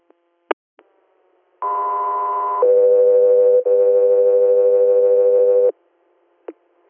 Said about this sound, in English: Echo 3 Air, stand by for tones.